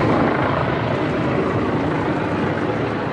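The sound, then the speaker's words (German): A steady, loud drone of helicopters circling overhead during a state visit, a continuous rotor roar with a faint rhythmic chop, heard alone without any voices. “Dass dies ein besonderer Staatsbesuch ist, sieht und hört man. Hubschrauber kreisen, auf den umliegenden Dächern stehen Scharfschützen.”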